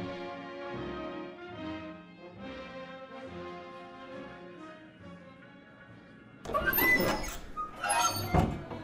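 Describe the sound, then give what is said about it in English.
Saloon double doors swing open with two creaking, clattering bursts as a tough-looking man in leather armor enters a large saloon in the daytime, following a stretch of steady, tuneful background music. “Inside of a notably large saloon in the daytime, a tough-looking man wearing leather armor makes a cowboy-like entry through the double doors.”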